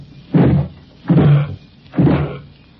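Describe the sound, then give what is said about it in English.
Three heavy, evenly spaced thuds as someone slams hard against a solid wooden door trying to bust it in, each blow booming and then dying away in the quiet between strikes. “I can reach the door all right. I'm tall enough for that. I just ain't got strength enough to break it in.”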